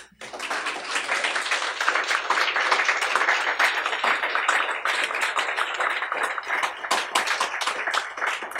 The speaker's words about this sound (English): We can clap for that.